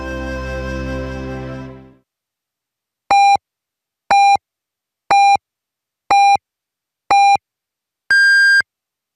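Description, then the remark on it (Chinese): A brief stretch of music fades out, then five short, evenly spaced electronic beeps sound one second apart, followed by a longer, higher-pitched final tone marking exactly 20:00 Beijing time on the Voice of China radio time signal. “北京时间20点整”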